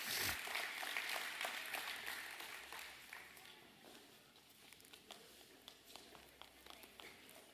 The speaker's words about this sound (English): Y'all come give the big round of applause today.